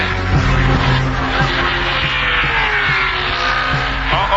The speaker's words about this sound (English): harsh slowing. It's like that the 47 car cut a tire because he makes contact with the wall.